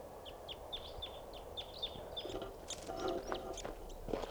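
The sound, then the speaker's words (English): A wild crossbill chitters in flight as it comes in while decoy birds call, one of them (387) responding: a quick series of short, high, sharp chip notes, then denser, overlapping calls toward the end over a steady background rush. “And yet, 12:25, there's a wild crossbill coming in.”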